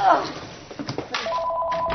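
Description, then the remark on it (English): A telephone rings with a steady electronic tone, fairly loud, starting partway through and continuing to the end while voices talk. “Hurry, get that. Get the phone.”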